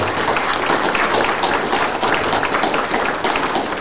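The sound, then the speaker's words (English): An audience gives Jesus a clap offering at a morning church service, clapping together in sustained, dense applause, a steady wash of many overlapping hand claps that stays loud and even throughout without pause. “Can you give Jesus a clap offering this morning?”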